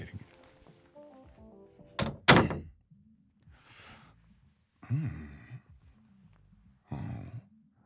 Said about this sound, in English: Well, lock the door. There's a catch on the other side. It's a coat room.